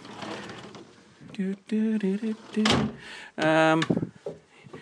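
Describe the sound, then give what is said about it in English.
The two sliding doors of a wardrobe holding pillows roll open in several squeaky, grinding passes, each a second or so long, fairly loud, with a final longer scrape near the end and faint voice in between. “And in the other one, there's two sliding doors here.”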